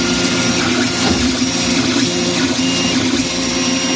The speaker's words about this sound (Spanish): Pues es el sonido que hace una impresora 3D al fabricar estas golosinas, de las que puede controlarse absolutamente todo, desde la dosis, pasando por el color, también el sabor.